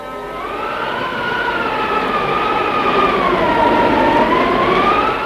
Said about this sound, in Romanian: Iată-l acum pe Fram, înaintând prin zăpadă pe un viscol cumplit.